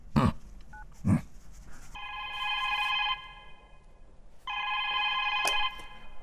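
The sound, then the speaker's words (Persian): A telephone rings twice, each burst a steady electronic trill lasting about a second, fairly loud, preceded by a couple of sharp knocks or thumps. “صد دفعه برات نگفتم که اینجا برای ما تلفن نکنی، مسیج، فقط مسیج روان کن بس خلاص.”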